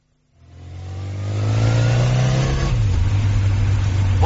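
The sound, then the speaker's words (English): A car engine turns over and catches, then revs up to a loud, rough drone that holds steady before dropping slightly in pitch, with no voices. “What's wrong with your car? It's ill, and it's not mine.”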